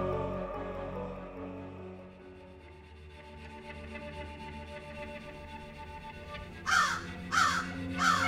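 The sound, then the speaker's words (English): A low, sustained musical drone hums steadily, then three loud, harsh crow caws ring out in quick succession near the end, rising clearly above the background. “I was poisoning crows the day the aliens arrived.”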